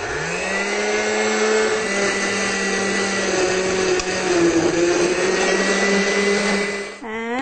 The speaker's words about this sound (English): For the soup part, we need to use a blender. So, in order to give us real soup, we're going to take a big bowl of watermelon and just put it in a blender. Doesn't have to be a high-speed blender. And put it on puree.